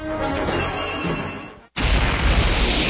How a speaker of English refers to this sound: Tune in every evening to hear the thunderous crash as I pull the linchpin from the foundations of the House of the New World Order as it crashes down.